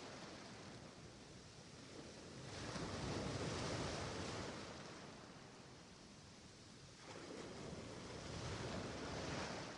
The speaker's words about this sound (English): Enjoy digging your toes deeply into the wet sand. And as the waves wash over the unspoiled sand towards you, the vibrant water touches your toes before receding.